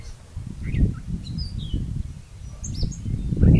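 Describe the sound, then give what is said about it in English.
Scattered bird chirps and short tweets in a cherry orchard on a sunny, slightly breezy Sunday morning as cherry picking begins, over a steady low rumble of breeze, with no one talking. “We're about to start our cherry picking on a Sunday morning, and it's sunny and just a little bit breezy, and all you hear in the cherry orchard are the birds.”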